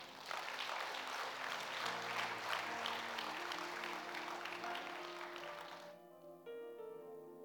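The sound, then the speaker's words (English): An audience claps steadily and loudly for about six seconds over sustained keyboard chords. The applause then stops abruptly, leaving the held chords playing alone. “Somebody should have clapped there.”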